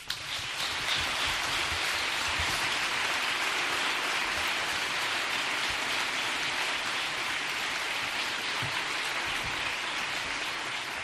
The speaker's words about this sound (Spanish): La lluvia, esa que tenemos esta mañana, también nos ha enseñado a crear otra Semana Santa.